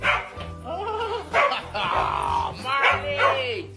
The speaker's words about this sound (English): It's pure love. These two dogs are just crazy for each other.